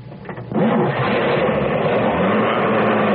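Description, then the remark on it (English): A car engine, started with a diamond-shaped ignition key, cranks briefly with a few rhythmic sputters, then catches and settles into a steady, loud, low idle that rumbles evenly to the end. “I've never thought changing the shape of the ignition key could make that much difference in our car runs.”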